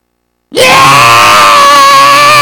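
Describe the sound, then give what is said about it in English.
After half a second of silence, a voice bursts into a loud, sustained, strained scream imitating a hungry baby's wail, holding steady and harsh for about two seconds with no words. “What do a baby do when he or she is hungry? They scream.”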